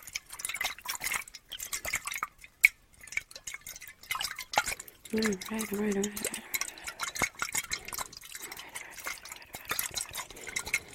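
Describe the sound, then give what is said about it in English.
Water sloshes and drips inside a container, with irregular splashy bursts and light clinks as it is poured and shaken to mix something into it; a brief hum of voice is heard midway. “Yeah, I'm gonna put something in it, so that's why I'm gonna shake it up a little bit.”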